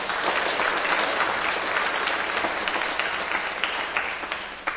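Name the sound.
audience applause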